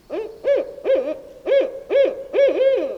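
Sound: barred owl hooting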